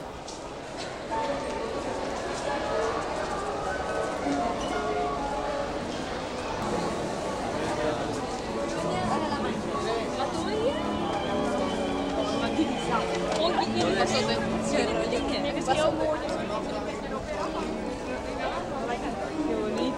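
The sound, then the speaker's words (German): A steady crowd murmur fills the outdoor scene in front of the Austria Pavilion at the Expo in Seville, with overlapping voices and chatter, scattered clattering sounds and occasional louder calls, all at a fairly constant level throughout. “Es vermittelt einen Eindruck von der Stimmung vor dem Österreich-Pavillon und wird in circa einer Minute zu Ende sein und von dem telematischen Live-Konzert Sevilla, Wien abgelöst werden.”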